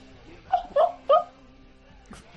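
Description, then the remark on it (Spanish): A dog whimpers in its sleep, four short, high, squeaky whines spaced irregularly over a couple of seconds, fairly soft against a quiet background. “Que parece ella, pero no es ella. Es un perro.”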